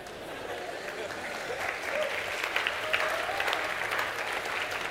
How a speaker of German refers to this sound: Will noch jemand Applaus? Streck mal kurz. Applaus bitte.